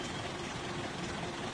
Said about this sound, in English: He's got his engine running.